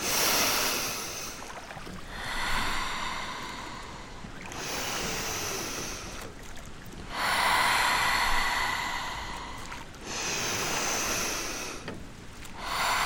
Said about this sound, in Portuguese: Usou o truque da respiração outra vez.